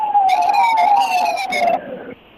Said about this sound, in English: I assure you that was not a sound effect. That actually was somebody's siren.